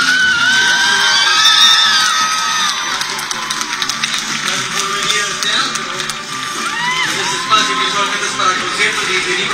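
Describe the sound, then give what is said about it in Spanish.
A large theatre audience at the last performance of the season of Jesucristo Superestrella screams and cheers loudly and continuously, giving an ovation to the production, with shrill whoops and high-pitched shrieks rising above a dense roar of voices throughout. “pero no se escucha muy bien justamente porque había muchísimas personas gritando y pues ovacionando a todos los que estaban en la producción”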